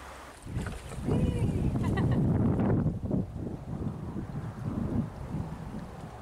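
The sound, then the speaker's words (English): A small homemade boat carrying one light person moves through the water, with steady splashing and sloshing against the hull, wind buffeting the microphone, and a few faint voices in the background. “So, not for all water conditions and not for big people, but still, I think this little boat is a success.”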